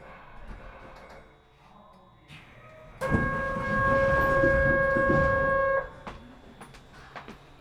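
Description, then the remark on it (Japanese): A Keihan commuter train bound for Hamaotsu Station idles at a stop with a low rumble, then a loud three-second burst of hissing and a steady, ringing tone as the right-side doors open, fading back to quiet rumble. “この電車は京阪京浜線方面浜大津駅です。”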